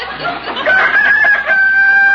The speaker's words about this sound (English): You old rooster, you shut up.